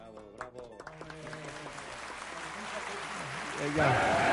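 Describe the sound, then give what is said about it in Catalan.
Applause starts softly under a voice and builds into a dense, steady clatter of many hands, swelling louder near the end as the talking fades out. “Aquest aplaudiment no l'hem fet nosaltres.”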